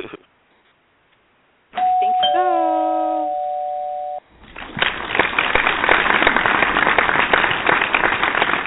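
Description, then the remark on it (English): A loud electronic doorbell chime rings out for guests at the door after a short silence, a bright two-tone ding-dong with a held tone, followed by a burst of cheering and applause-like crowd noise. “I believe we have some guests at the door.”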